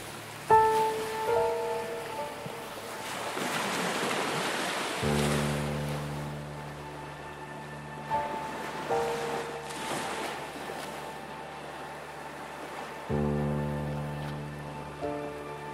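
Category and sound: nature, ocean waves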